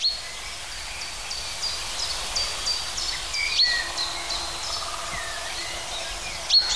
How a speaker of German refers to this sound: Und das ist jetzt sein Kontaktruf. Eindeutig keine Kohlmeise. Pink. Pink, pink.